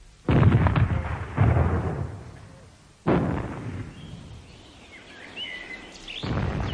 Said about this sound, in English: Shortly, our friends are going to begin creating various diversions in the town, explosions and so forth. Ignore them.